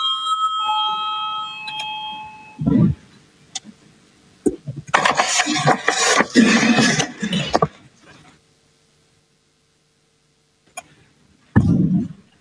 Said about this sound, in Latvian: Lūdzu, zvanu, balsosim par ceturto juridiskās komisijas priekšlikumu. Lūdzu, balsosim.